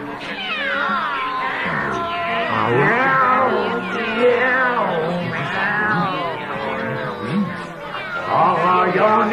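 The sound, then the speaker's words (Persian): A group of cats meows and yowls continuously, many overlapping wavering cries rising and falling together, loud with no pause throughout. “پس بریم در جمع گربه ها مسابقه بدیم.”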